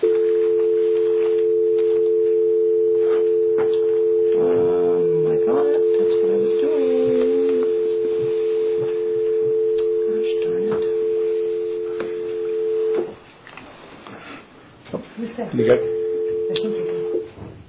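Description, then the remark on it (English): A steady, droning telephone tone hums for about thirteen seconds while a conference call is being connected for an Oregon Government Ethics Commission meeting, cuts out, then returns briefly, with faint muffled voices murmuring underneath and in the gap. “I'm going to connect you into the conference call.”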